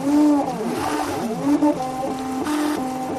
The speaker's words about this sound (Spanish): Este sonido es el de una impresora 3D. Un progreso que se une cada vez más con el creciente mundo de la medicina y la nutrición. Así la impresora crea un alimento lo suficientemente sólido, manteniendo el sabor de la comida que se quiere recrear.